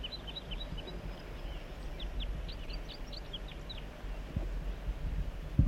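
Wild bird song, joined by a second bird labelled 4-3: a run of quick, high, thin chirping notes, each a short downward-sliding whistle, repeated for several seconds over a steady low rumble, with no talking.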